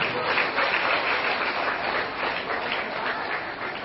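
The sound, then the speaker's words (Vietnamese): A crowd at a school applauds steadily, dense clapping filling the space for the whole stretch at an even, fairly loud level, with no clear voices rising above it. “Vì vậy là hai trưởng môn phái hãy chào bạn mình, các bạn mình hãy dành cho một tràng pháo tay nữa.”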